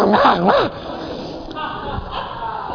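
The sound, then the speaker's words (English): A voice imitates a big hybrid dog the size of a Great Dane barking as a house door opens: a loud burst of gruff, rising-and-falling barks lasting under a second, followed by quiet background noise. “She opens the door, and here's this dog.”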